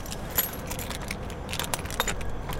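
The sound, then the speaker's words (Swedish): Metal keys jingle and clink in a run of bright, uneven rattles as a small temporary door into a church is unlocked on a cold, windy winter day, with a few sharper metallic clicks over a steady low rumble of wind. “Du har nyckeln här,”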